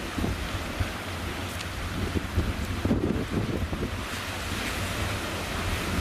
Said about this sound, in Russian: Ветром резким вырывает камеру у меня из рук. Я держусь из последних сил. Вы, друзья, не можете себе представить этот ветер, который меня буквально с ног сбивает.